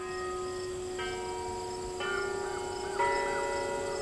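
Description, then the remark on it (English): Church tower bells, muted by insulation in the cupola, louvers and a reworked striking mechanism, ring in a steady series of strikes about once per second, each adding a humming, overlapping tone that builds into a soft, sustained chord. No voices are heard. “The muted bells made their debut last week.”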